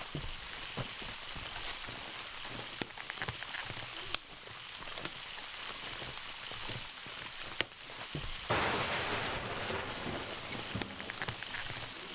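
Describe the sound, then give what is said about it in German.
Heavy rain pours down steadily in a dense, hissing wash, with occasional sharp drops or taps standing out, and the downpour grows a bit louder and fuller toward the end. “jetzt fängt's aber an zu regnen. Richtig stark sogar.”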